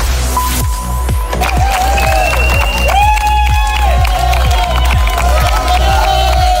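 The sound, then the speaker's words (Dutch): A loud, dense crowd cheers and applauds continuously for the first walkers to finish a 100-kilometre walking event, with sustained shouts and whistles rising over steady clapping, unbroken throughout. “Ja, gejuich voor de eerste lopers van de dodentocht die een uurtje geleden aangekomen zijn.”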